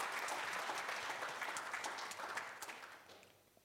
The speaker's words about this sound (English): I think, that's my testimony. Normally after someone give a testimony, you clap your hands. Amen.